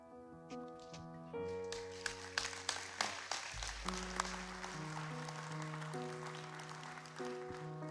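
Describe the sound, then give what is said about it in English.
A church audience at Christ Legacy claps steadily, a dense patter of hands over sustained organ-like chords and a deep bass note, with no one speaking, giving Teen Challenge and a pastor another round of applause after a message and testimony. “Christ Legacy, let's give Teen Challenge and Pastor Joshua another round of applause.”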